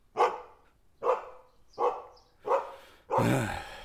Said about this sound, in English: Hold on. I gotta see what the dog's worked up about.